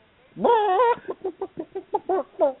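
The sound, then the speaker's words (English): A chicken lets out a drawn-out, wavering squawk, then a quick run of about eight short clucks in a steady rhythm, fairly loud with no voices. “There's the butt cheeks and with the chicken again.”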